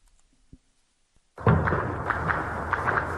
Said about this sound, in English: The sounds of gunfire echoed across the Sudanese capital, Khartoum, and other towns Monday afternoon.